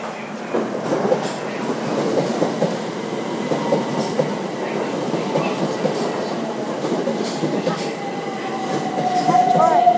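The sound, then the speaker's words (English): A train rumbles steadily alongside a station platform, its wheels clattering, and near the end a thin metallic squeal of brakes rises over the heavy noise. “Is that ours? Yeah. Okay, well, because we can get on a train.”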